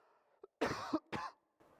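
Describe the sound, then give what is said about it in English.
Two harsh, forceful coughs from a pastor in quick succession, loud, preceded by a short throat catch and followed by a softer breath or cough fading out. “I'm really over this cough, guys.”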